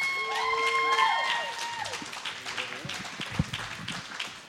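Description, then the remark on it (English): An audience applauds a stand-up comedian at the end of his set, steadily for several seconds, a dense patter of many hands clapping, with high whistles and whoops rising over it at the start before the clapping gradually thins out. “Give it up for him again, guys.”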